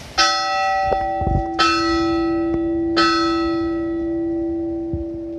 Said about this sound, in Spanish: La campana, güey.